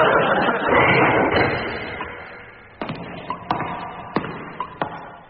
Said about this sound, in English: I wonder who the hell he was knocking at this time of night.